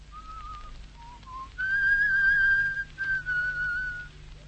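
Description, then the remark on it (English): Someone whistles a short melodic tune, clear, with sustained notes rising and falling in pitch over a faint background hum, no talking. “Go on, …, whistle it for us.”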